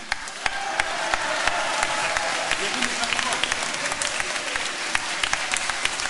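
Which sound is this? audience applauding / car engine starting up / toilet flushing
audience applauding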